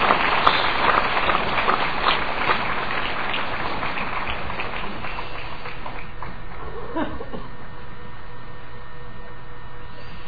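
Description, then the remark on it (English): A crowd at a lecture claps loudly in a dense burst of applause welcoming a reverend, gradually thinning and fading into a steady background hum over about ten seconds. “So you can make a big applause and welcome Reverend Yu.”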